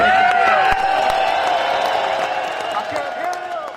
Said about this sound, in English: What if we can make enough noise applauding our industry that they can hear it over here in the Capitol and the buildings there? We can start applauding.